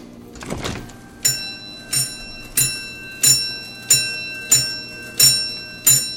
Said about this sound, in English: This is a strength tester machine. Oh, boy. It's a wooden box from the 1920s with a bell inside. If you've got a dime and a little juice in those biceps... All you have to do is squeeze these together.